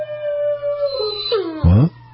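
A dog lets out a single drawn-out howl that wavers and slides downward, finishing with a louder, lower yowl. It's clear, with only a faint background hum and no talking.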